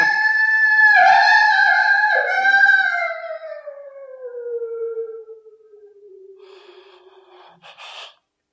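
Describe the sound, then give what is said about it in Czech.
A single long wolf howl, loud, rising briefly then sliding slowly downward in pitch for several seconds before trailing off into a soft breathy rasp. No one speaks. “To byl vlk, co?”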